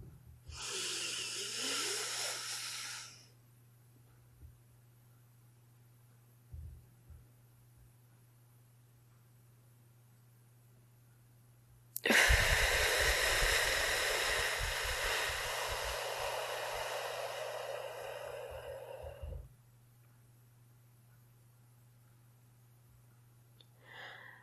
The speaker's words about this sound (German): lass uns zu Beginn von dieser Podcast-Folge einfach mal eine ganz, ganz kurze Atemübung machen. Und zwar atmen wir jetzt 4 Sekunden ein, dann halten wir unseren Atem für 7 Sekunden, atmen 8 Sekunden aus und halten wieder für 4 Sekunden. Los geht's.